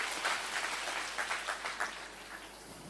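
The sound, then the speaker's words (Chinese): People clapping together in praise of the Lord Jesus, a dense patter of many hands that swells in waves for a couple of seconds and then fades, heard alone without talking. “我哋俾掌声主耶稣。”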